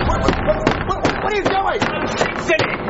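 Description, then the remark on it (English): A door being smashed apart by someone who says he is fixing it: a rapid, irregular series of loud cracking thuds, about half a dozen blows, with splintering crunches and brief squeaky creaks between hits. “No, you just broke my door.”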